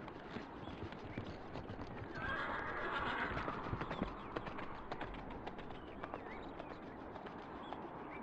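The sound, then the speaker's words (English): A horse whinnies loudly with a high, wavering neigh, while steady clip-clopping hoofbeats sound over a busy, noisy background. “Take my horse.”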